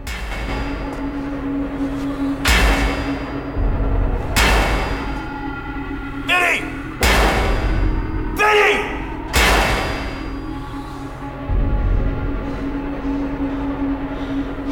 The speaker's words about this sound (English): Eventually, he finds Benny hammering away at something.